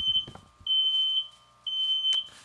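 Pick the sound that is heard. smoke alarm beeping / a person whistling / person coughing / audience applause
smoke alarm beeping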